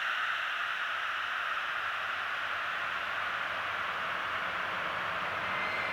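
A steady, hissing wash of synthesizer tone run through a reverb module, sustained and even at moderate volume for the whole stretch, with no distinct notes or rhythm and no voices.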